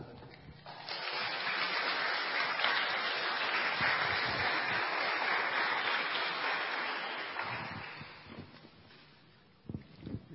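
A church audience applauds to thank a member for giving his testimony: dense, steady clapping swells quickly, holds for about seven seconds, then tapers off, with a few faint scattered sounds after it fades.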